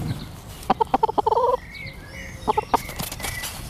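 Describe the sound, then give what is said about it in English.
Chickens at the New Street allotments cluck in quick bursts of short, throaty notes, a flurry early on and another brief run later, with faint birdsong in the background. “So that is basically something we do every brew day, cycled up to the New Street allotments, where it's benefiting many gardeners and chickens as well.”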